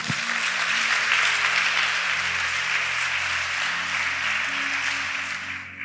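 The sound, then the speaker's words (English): An audience claps for Jesus in a dense, continuous burst of applause that holds steady for several seconds before easing slightly at the end, with low sustained musical tones humming underneath. “Clap for Jesus.”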